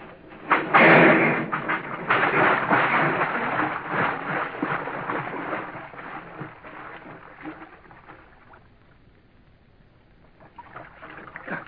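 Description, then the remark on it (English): A handcar derails from the track and crashes into a river: a sudden loud crash and heavy splash into water, followed by several seconds of churning, sloshing noise that gradually fades, with a little more splashing near the end. No one speaks. “Something's wrong with the track.”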